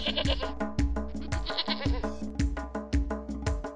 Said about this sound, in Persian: من یه بزم بزبزی، ما و ما و ما میگم، شیر گرم و خوشمزه میسازم برای شما